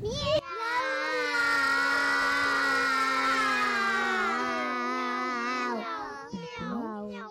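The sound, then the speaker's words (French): A child's voice imitates a cat into a microphone with one long, drawn-out meow, steady and sliding down at the end, followed by a short breathy sound. “Est-ce qu'on peut dire au micro comment ça fait le chat ?”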